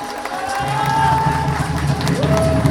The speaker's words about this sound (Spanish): Un aplauso por todo ese gran esfuerzo.